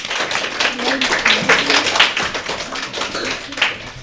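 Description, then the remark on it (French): An audience applauds the referees for about four seconds, a dense, steady patter of many hands clapping with no break, with faint voices murmuring underneath. “On peut les applaudir.”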